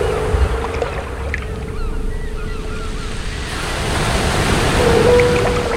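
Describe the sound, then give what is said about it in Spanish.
A canoe moves across the ocean after setting out from the lands of Chocó while still dark, a steady wash of waves and water surrounding it, the surf swelling louder toward the end, with faint wind and no voices. “Al otro día, cuando todavía estaba oscuro, salieron de las tierras del Chocó y empezaron a navegar y navegar.”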